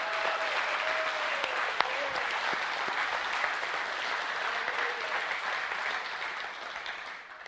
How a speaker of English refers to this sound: And we can shout that, and we need to applaud that. If we can applaud human singers and basketball players throwing things to the hoop, why can't we give Jesus a big shout out and a round of applause? Because he is our triumphant king.